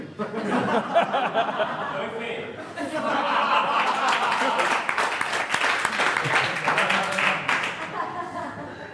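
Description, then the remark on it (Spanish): A crowd bursts into loud, sustained clapping after a few seconds of chuckling, the dense applause mixing with laughter and continuing steadily before easing slightly at the end. “Y el que aplaude es gay.”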